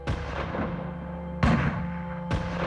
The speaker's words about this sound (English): Gunshots split the sea-salt-tinged air of the Fondo Riella. Galati ran towards the sound.